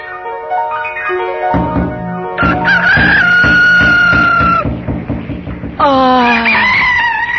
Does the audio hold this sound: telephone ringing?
no